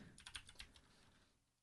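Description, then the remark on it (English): A brief burst of typing on a computer keyboard: half a dozen quick, crisp key clicks in an uneven rhythm, fairly quiet, then trailing off into near silence. “Typing, with a...”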